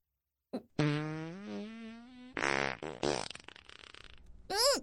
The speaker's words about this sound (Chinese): 哎呀，抱歉抱歉啊，肚子太胀了，一不小心就想放屁。